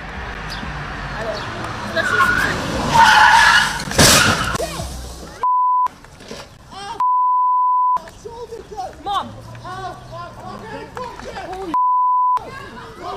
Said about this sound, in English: From behind the reporter, a car can be seen veering into an intersection before leaving the roadway, jumping the curb, and smashing into a parked car.